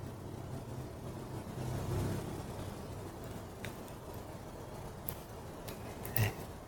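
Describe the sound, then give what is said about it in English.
Traffic drones steadily outside, a low rumble that swells as a car passes, with a few faint clicks and knocks near the end. No one speaks. “If you listen to sounds of the room, the traffic, first listen only through your left ear.”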